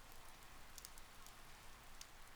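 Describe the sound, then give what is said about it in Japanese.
Steady rain falls in a dense, even hiss, with scattered sharper drops ticking on a surface now and then. No voices, just the continuous wash of rainfall. “ああ、雨の音をマイクが拾っちゃうからな。”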